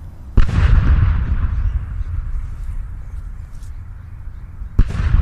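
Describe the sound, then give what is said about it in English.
A cannon fires with a loud, deep boom that rumbles on for several seconds, and a second blast goes off near the end. No one speaks. “After the funeral, the Cragmire cannon was fired, and the magnificent boom could be heard for miles.”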